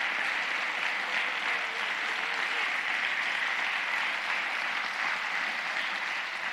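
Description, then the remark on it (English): A crowd applauds a testimony steadily, the dense patter of many hands clapping at an even, fairly loud level for several seconds with no voices standing out. “I just love, just like I ask you to wish my mother a happy birthday, would you just give a round of applause for that testimony?”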